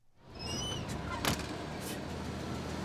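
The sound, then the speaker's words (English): School buses, some over 10 years old, idle at Nottaburg Elementary School at the end of the school day as children climb aboard to go home. A steady low engine rumble is broken by a few high squeaky whines early on and a short sharp hiss like an air brake or door, with no voices. “It's the end of the school day at Nottaburg Elementary School, and staff mingle while the children climb onto buses to go home.”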